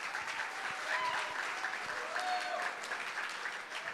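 An audience claps steadily for several seconds, a dense, even patter of many hands at moderate loudness with a few faint whoops or voices mixed in.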